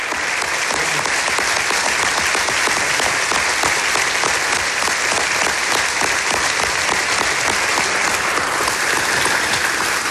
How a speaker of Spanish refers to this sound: Esta es la ovación que recibió